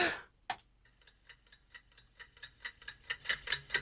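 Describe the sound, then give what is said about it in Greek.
A stopwatch timer, set to time how long a person holds their breath, ticks in a quick, steady rhythm after a sharp opening click, the ticks growing gradually louder toward the end, with no voices present. “Βάλε χρονόμετρο. Θα βάλω χρονόμετρο.”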